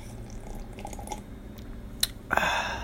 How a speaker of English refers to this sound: Just sipping on some coffee.